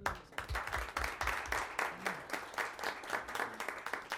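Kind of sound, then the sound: crowd, round of applause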